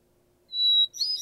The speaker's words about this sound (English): And for hermit thrush, what defines it for me is one or two introductory notes and a little bit of a warble or gurgle.